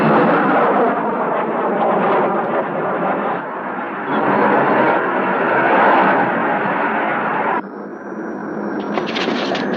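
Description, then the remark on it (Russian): Jet aircraft, ordered into the air during an alarm, take off with a loud, steady engine roar that fills the whole stretch, then shifts near the end into a thinner, high-pitched whine. “Поднять воздух самолеты немедленно.”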